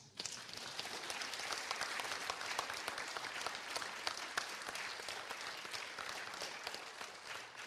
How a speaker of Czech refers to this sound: Prosím o potlesk.